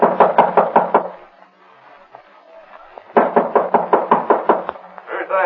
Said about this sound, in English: Open the door. Who is it? Open up. All right, don't break the door down.